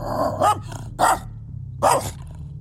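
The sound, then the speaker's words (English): A dog barks loudly, three sharp barks spaced out over a couple of seconds, with a low rumbling growl underneath between them. “But then the dog comes back, barking more loudly.”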